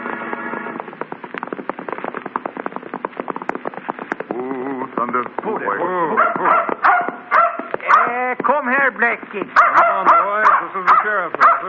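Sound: dog barking and whimpering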